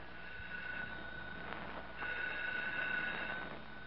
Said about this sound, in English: The phone's ringing. Well, answer it.